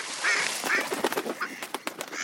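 Ducks quack in a rapid, overlapping series of short calls, moderately loud, over a steady hiss of background noise with no talking.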